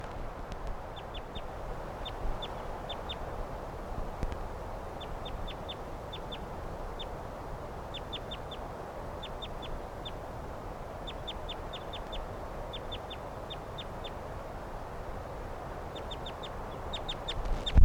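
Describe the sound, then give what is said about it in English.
A flock of five wild birds, all males, calls steadily, giving short, high chirps in quick bursts of two to four that repeat throughout over a constant low rumble and hiss. No one speaks. “All the birds in the flock of 5 are males.”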